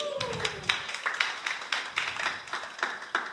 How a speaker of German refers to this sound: Danke, Applaus!